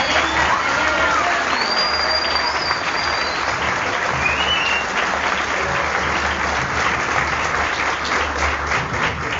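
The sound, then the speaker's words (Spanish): Loud, sustained applause from a large audience at a political gathering for a person just introduced, a dense steady patter of clapping with a few faint whistles rising above it. “Su deseo y compromiso fuerte los aplausos.”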